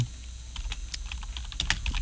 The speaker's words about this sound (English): Dude, I think typing is like such a satisfying sound. I agree. I think it sounds like rain. I think it's like really, I think it's like mechanical rain. Like especially like an old typewriter, an old thing like this.